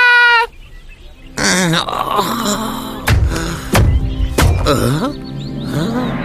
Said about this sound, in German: Das Märchenbuch wirft die beiden Freunde Jojo und Doc Rock unsanft im Hof des Schlosses ab. Voller Schwung purzeln die beiden nach vorn geradewegs in einen großen Käfig hinein.